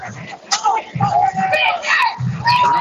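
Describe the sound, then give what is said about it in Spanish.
A dense crowd shouting and calling out at once, with overlapping raised voices and occasional shrill cries, loud and sustained from start to finish, at an outdoor street parade with many US flags, uniforms, bagpipes and green hats and sweaters. “Bueno, escuchamos ahí ahora un poco de griterío, ¿no?”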